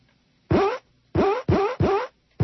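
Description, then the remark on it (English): Leather pants squeaking against a leather chair as someone adjusts position: five loud, pitched, rubbery squeaks in an uneven rhythm, each about a third of a second long, with the last one cut off. No one talks. “That sounds like leather pants on a leather chair.”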